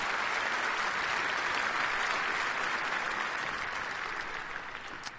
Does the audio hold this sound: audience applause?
yes